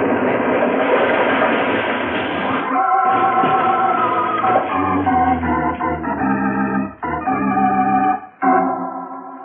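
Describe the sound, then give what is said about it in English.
A train rumbles loudly and steadily across a trestle bridge, almost halfway across, wheels clattering under a droning metallic whine, with a couple of brief breaks in the noise near the end. “It's on the trestle now. Almost halfway across.”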